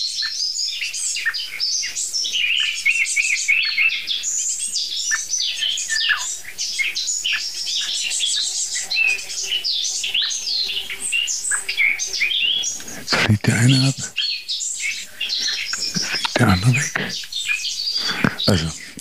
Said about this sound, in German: Es sind zwei Eichelherr. Jetzt ist die Meise auch genervt.